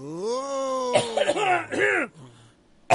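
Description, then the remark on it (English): A drawn-out vocal groan breaks into a loud fit of several rough, strained coughs, then a brief pause before one final sharp cough. “I got a cough. Hold on.”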